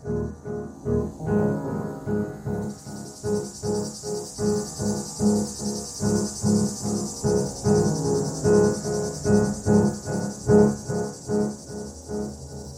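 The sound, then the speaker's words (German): A cicada chirps in a steady, rhythmic pulsing drone, its shrill high buzz joining a couple of seconds in and continuing loudly throughout, with no voices. “Und so altert der unsterbliche Geliebte eben immer weiter, schrumpft zusammen, wird immer faltiger, bis er dann eben zu einer kleinen Zikade wird, die nur noch vor sich hin zirpen kann.”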